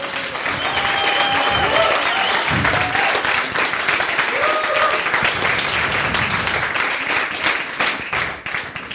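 Sustained applause from an audience, dense and steady throughout, with a few whoops and cheering voices rising above the clapping before it tapers off near the end.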